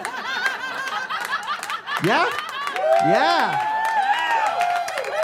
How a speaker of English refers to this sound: It's the first time I ever got an applause break with that joke.